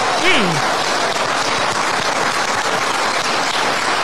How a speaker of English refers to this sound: And so if a government agency in the state of Florida forces a vaccine as a condition to employment, that violates Florida law. And you will face... And that they clap for.